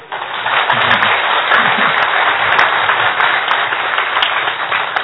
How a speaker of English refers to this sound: There are many reasons why we should clap. No, as far as the session is also concerned, no, when you clap, then there is acupressure, and that also helps.